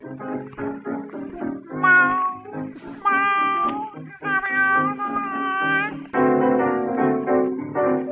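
An old-time dance band tune from a 1931 recording plays at moderate volume, with sustained, sliding melodic phrases that bend in pitch like a cat's meow, over a steady band accompaniment.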